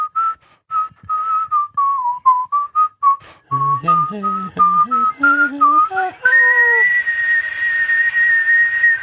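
Someone whistles a melodic tune, short staccato notes at first, then lower rising phrases, ending on a long sustained high note. No talking.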